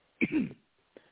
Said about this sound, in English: Bless you. Bless you.